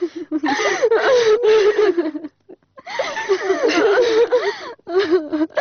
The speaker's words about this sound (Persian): بس از دگه گریه نکو، بیا کمی او دارید ….